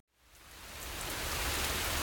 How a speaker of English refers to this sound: And these are the DPA mics, still on auto gain. And it's raining. I'm out on my front porch, and if a clap of thunder comes along, it's going to really knock the auto gain down. But so far, I haven't heard any thunder.